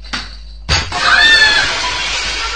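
A thud followed by a sharp, bright crash of breaking window glass as a kicked ball smashes a window, with shards ringing and scattering for a couple of seconds; loud, no voices.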